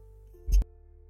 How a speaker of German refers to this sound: Entschuldigung, ich musste kurz husten.